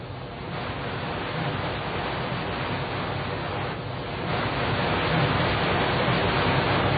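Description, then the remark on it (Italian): Steady, dense rush of floodwater roaring without pause through Via Cerretani and Via Panzani in the heart of Florence, Italy, heard through an open window, a broad wash of noise like a torrent flowing past, growing slightly louder toward the end. No voices are heard. “Ecco, questo non è un fiume, è la via Cerretani, è la via Panzani, è il cuore di Firenze, invasa dall'acqua.”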